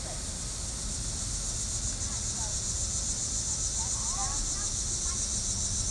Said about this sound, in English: Oh, there goes the crickets. Oh, yeah.